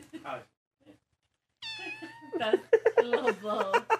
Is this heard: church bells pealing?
no